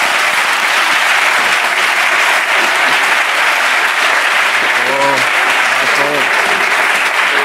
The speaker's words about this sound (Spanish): ¿Quién aplaude? ¿Quién aplaude? Esto es la señal.